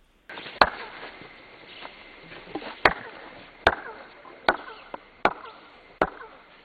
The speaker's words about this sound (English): Now, that's called chirping, as you walk up the stairs. Did the Mayans do that on purpose, do you think?